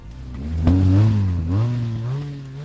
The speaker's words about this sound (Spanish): El rugido de los motores por las calles de la capital y las carreteras de la provincia anuncian la llegada de los pingüinos a Valladolid.